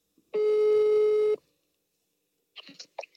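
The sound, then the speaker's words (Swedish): A single steady telephone ringing tone sounds on an outgoing call, a loud, even beep lasting about a second, then silence broken by a few brief, soft clicks and rustles. “Okej, då tycker jag att vi ringer upp.”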